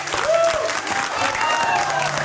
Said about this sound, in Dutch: Jongens, ik hoor gejuich. Volgens mij hebben wij een frequentie. Van harte gefeliciteerd. Fantastisch, gefeliciteerd.